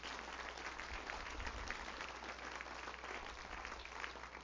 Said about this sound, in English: Would you give the Lord a good clap offering, would you?